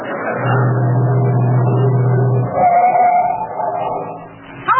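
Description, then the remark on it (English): A delivery truck engine rumbles with a steady low drone, then shifts pitch and settles as the truck pulls up and slows. No one speaks. “I'm going past your house. You want to lift my delivery truck?”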